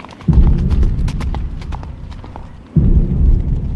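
Loud galloping hooves pound in a rapid, dense rhythm, with a brief lull before a second burst of heavy hoofbeats; many horses seem to thunder past together: 1,000 horsemen sent by Hasin ibn Namir under his officer Hur to intercept Husein.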